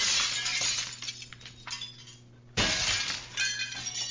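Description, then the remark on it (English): A window is knocked on too hard and its glass shatters with a loud crash, followed by a spill of high, tinkling shards that fade, then a second burst of crackling, clinking fragments. “Can I knock on the window? No. Okay. Oh, I think I knocked too hard.”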